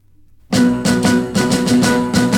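After a brief moment of quiet, a 1960s rock and roll song from the film Viva Las Vegas kicks in loud, driven by steady, punchy beats under bright, sustained instruments, with no voices yet.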